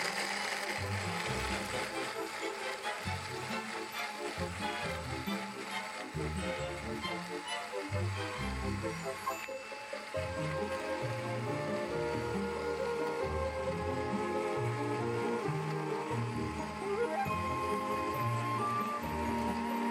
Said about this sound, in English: I'm going to go ahead and stop that. Because we're using dates, you're going to have to blend it a little longer because you've got that date material that you need to get blended.